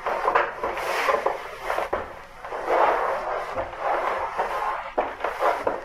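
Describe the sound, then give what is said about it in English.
Wooden doors strain and grind under pressure as things try to break through, a continuous rasping creak swelling in waves with occasional dull knocks, loud, with no voices. “I am waiting for the doors to give way. Do you hear them?”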